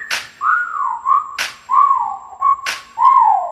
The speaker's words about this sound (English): Damn, shorty look good and I'm thinking about getting at her. Okay, time to whistle at her. Hey, girl, you make my whistle blow.